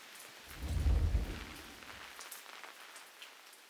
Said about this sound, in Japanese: 雨も強くなってきましたし、中入りましょうか。